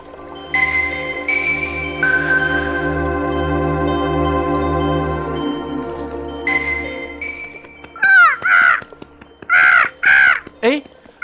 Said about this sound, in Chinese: 那是什么？啊，是乌鸦，朝着我飞过来。